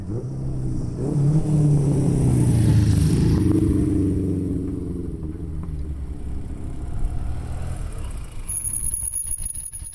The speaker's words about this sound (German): Uralte Töpfe, die alte Gotterpassstrasse, Tremola, ob sie fahren, und Wespi, also Vespas. Antike Vespas an einem Rennen von alten Motorfahrzeugen, wo an diesem windigen Julitag stattfindet.